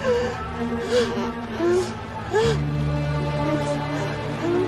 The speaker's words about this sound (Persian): … نفس میکشه و ناله میکنه.